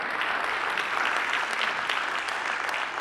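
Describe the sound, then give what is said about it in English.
A church audience applauding visiting missionary partners in the morning, a dense, even patter of many hands clapping at a fairly loud, constant level for the whole stretch, with no voices standing out. “Yeah, I see some people want to applaud. You can do that.”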